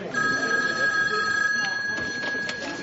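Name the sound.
telephone bell ringing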